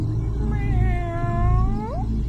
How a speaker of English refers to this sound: It was a soft meow. It sounded like a kitten. I felt concerned when I heard it.